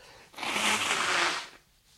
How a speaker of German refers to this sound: Entschuldigung, ich muss mir einmal kurz die Nase putzen.